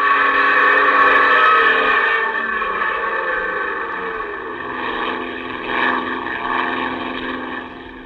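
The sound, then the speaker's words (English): A loud, steady airplane engine roar with a droning, buzzing tone as the throttle is pulled open and the plane twists wildly, swelling and shifting in pitch as it holds near full power, then easing slightly toward the end. No voices. “The plane twists wildly. You pull open the throttle.”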